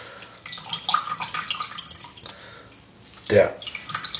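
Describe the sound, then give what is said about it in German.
Water is squeezed out of a large soaked bread roll, giving soft wet squelching and trickling, then one louder splashing gush near the end. “Der den Stein drückt, ne? Bis Wasser rauskommt.”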